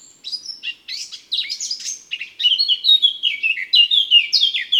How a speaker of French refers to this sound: le chant de la fauvette à tête noire est agréable.